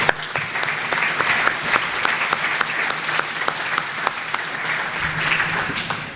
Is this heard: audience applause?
yes